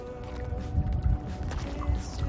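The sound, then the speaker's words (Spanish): Waves breaking on the shore at Es Castell, a small, quiet fishing village on the island of Menorca: a steady rushing wash with a deep rumble that swells and eases every second or so, plus a faint windy hiss and no voices. “Amigos de la contraportada, saludos desde Escastell, un pueblecito pequeño de la isla de Menorca, un pueblecito pesquero, tranquilo, donde solo se escucha esto, el romper de las olas.”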